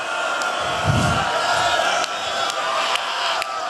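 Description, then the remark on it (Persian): A large crowd at a gathering shouts and wails together in a loud, sustained roar, voices overlapping into a dense wall of sound with a few sharper cries breaking through. “من یواش بگم شماها عربده بکشید”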